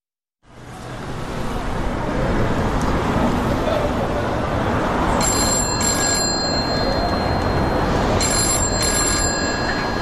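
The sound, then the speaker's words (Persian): A telephone rings in two bursts, each a shrill, high trilling lasting a couple of seconds, heard over a steady, loud wash of background noise like traffic. “تلفن زنگ زد.”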